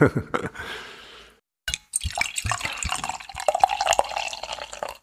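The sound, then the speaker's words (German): A cloudy, brownish, fizzy drink is poured from a bottle into a glass, splashing and gurgling, pausing briefly, then pouring again with a steady fizzy trickle whose pitch rises as the glass fills. “Ja, wir haben was Trübes ins Glas bekommen, was erstmal vom Angucken an Apfelschorle erinnert.”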